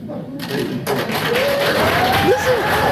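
A crowd in a played recording bursts into sustained applause after a brief quieter opening, a dense, steady clatter of many hands with scattered cheers or whistles rising above it, loud.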